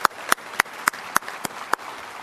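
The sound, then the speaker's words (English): Applause of seven sharp, evenly spaced claps in a slow, steady rhythm over a faint background hiss, with no one talking, given to recognize Zoetis colleagues standing up at an event. “I'm going to give you a big round of applause.”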